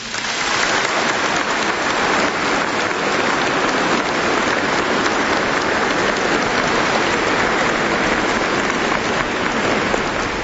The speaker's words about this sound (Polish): Tym wszystkim młodym, którzy będą nas tu zastępować, podziękujmy oklaskami.